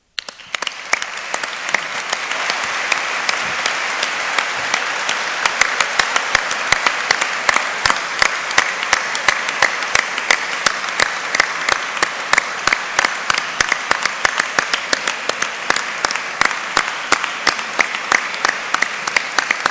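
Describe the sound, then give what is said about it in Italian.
An audience applauds steadily for about twenty seconds after a report is delivered, a dense, even wash of many hands clapping, with individual sharper claps standing out more toward the end. “Ancora più dell'applauso credo che possa dimostrare la nostra attenzione, il nostro apprezzamento per quanto ci ha comunicato, il silenzio e l'attenzione con la quale abbiamo seguito la relazione.”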